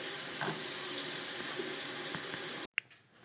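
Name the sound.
water running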